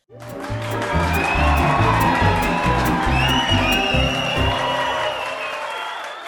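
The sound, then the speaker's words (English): A large crowd claps and cheers continuously, with dense applause, scattered whoops and shouts rising over a steady roar, loud and full for several seconds before easing slightly at the end. “And the sound of our cheering fans means it's time for listener comments.”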